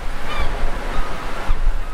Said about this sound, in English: The ocean shore.